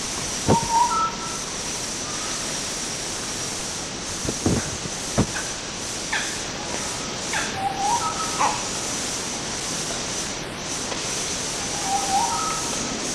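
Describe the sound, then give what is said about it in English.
Two short, harsh barks from two different red colobus monkeys (Badius), a bark and then a more nasal 'nyaw' bark a moment apart, over a steady hiss of background noise with scattered high bird whistles. “There was a bark and then a nyaw bark, from one from each of two different individuals.”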